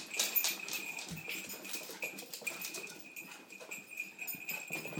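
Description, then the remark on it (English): Two dogs, one named Toof Toof, patter and skitter across a hard floor, running all over the place on getting home, a busy, irregular stream of light clicks and scrapes, with no one talking. “They're going to run all over the place.”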